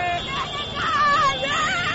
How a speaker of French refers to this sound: Objectif, saluer les champions d'Afrique à leur manière. Parade de centaines de mototaxis. Concert de klaxons. Chants de supporters. Ou plus simplement, cris de joie.